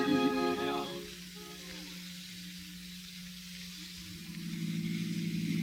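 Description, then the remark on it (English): The engine of a car with a rumble seat catches with a brief harmonic roar, then settles into a steady low hum that swells again as the car pulls away with passengers aboard. No one speaks. “Well, let's hop in and get going.”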